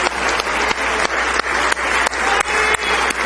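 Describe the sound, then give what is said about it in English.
An audience claps steadily as a hand clap of praise to the Lord Jesus, a dense wash of many hands with sharper rhythmic accents roughly every third of a second, loud and sustained with no voices rising above it. “Let's take our 10 stringed instruments and give our Lord Jesus a wonderful hand clap of praise.”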